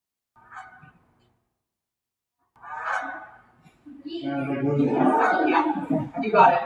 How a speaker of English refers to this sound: You got it. Canada Goose.